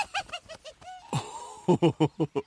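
Harsh, raspy crow caws come in quick rhythmic bursts, a short series, a pause with a drawn-out call, then five or six more loud caws close by.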